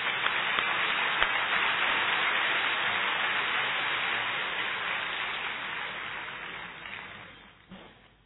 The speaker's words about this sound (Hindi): तो मैं तो यही कहूंगा कि आप सब शाबाश की एक ताली बजा दो।